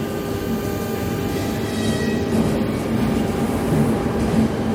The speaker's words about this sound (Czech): Ještě, než opouštíme studenou halu Prměnského nádraží a nastoupíme na vlak směrem do Prahy,